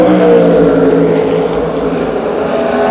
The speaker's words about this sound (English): The number 2 Cadillac making that great sound.